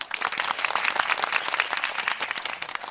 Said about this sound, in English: Let's give them a NOLA round of applause, everybody.